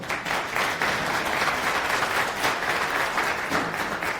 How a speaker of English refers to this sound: Applause.